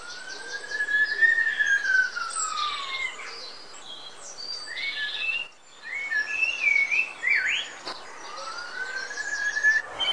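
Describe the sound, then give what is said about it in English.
A blackbird in the British town of Weston-super-Mare sings loud, varied phrases, mimicking a whistle, an emergency vehicle siren and a mobile phone, repeatedly sweeping whistles up and down like a siren between bright chirpy electronic-sounding notes, with no talking. “From dawn to dusk, the feathered impressionist sounded like a whistle, an emergency vehicle, and a mobile phone, all in hopes of attracting a mate.”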